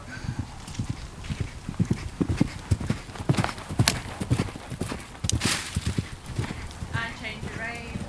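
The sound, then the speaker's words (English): A ridden pony's hooves canter in a steady, rolling rhythm of thudding beats across the whole stretch, with a brief high-pitched squeal near the end and faint voices in the background. “Now pick your point and ask her for her canter.”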